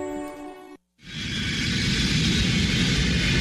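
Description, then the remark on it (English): A steady, loud airplane cabin drone fades in after a brief silence and holds as an even roar of engine and air noise, with no talking over it. “I am so glad we ate before we got on the plane.”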